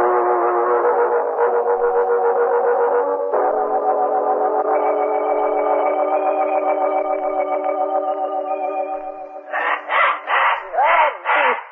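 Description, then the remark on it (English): A pet bird squawks four or five times in quick, harsh, raspy bursts, following a long, steady, tonal drone with a slightly wavering, electronic quality. “You must forgive my pet bird, Mr. Cranston. He still thinks he is on the island.”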